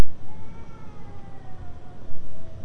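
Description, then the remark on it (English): A fire truck siren wails faintly, its tone sliding slowly downward over a steady low rumble of background noise, with no one speaking. “Did you hear a fire truck?”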